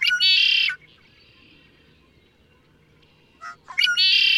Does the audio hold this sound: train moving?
no